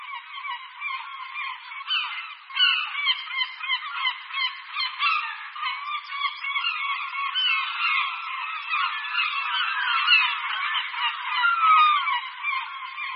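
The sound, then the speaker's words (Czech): A dense chorus of herring gull calls, many birds crying and squawking over one another without pause, loud, with no talking. “Racci stříbřití jsou výborní letci.”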